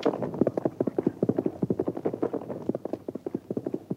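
Rapid, rhythmic hoofbeats of a horse galloping in pursuit of a bandit, dense clopping strikes in a steady fast pattern, fairly loud, continuing without pause and with no voices.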